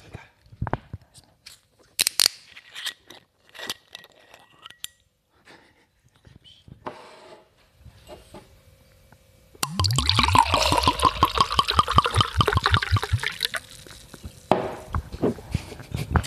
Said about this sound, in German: Also ich mache jetzt mal den Wein auf.